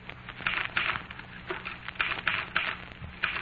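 machine, typing on a keyboard

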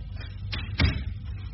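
household object, door being opened

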